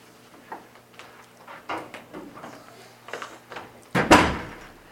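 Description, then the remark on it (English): A door swings shut with a loud thud near the end, preceded by a few seconds of soft shuffling and faint movement sounds. “close the door.”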